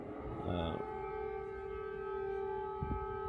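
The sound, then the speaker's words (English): A loud air raid siren in Kyiv wails steadily, warning people that incoming air raids may be approaching; its sustained layered tones hold across the whole stretch, with a brief low rumble and a short burst of noise near the start. “Of course, we hear the sirens. Those are for alarming the Kyiv people that incoming air raids may be approaching.”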